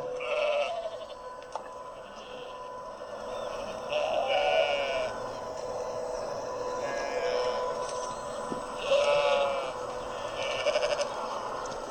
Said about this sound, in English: So these are just some pictures of those cute little sheep. These are the lambs.